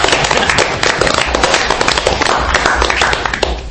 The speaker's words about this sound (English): And I think he deserves some applause for that as well.